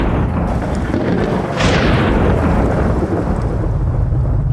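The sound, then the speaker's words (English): A loud crack of thunder bursts in at about the midpoint, then rolls and rumbles on for several seconds over a steady roar of storm noise, with no voices. “The winds quieted, revealing a sweeping valley lit by lightning bolts snapping three at a time.”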